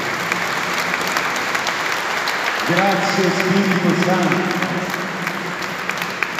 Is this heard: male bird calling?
no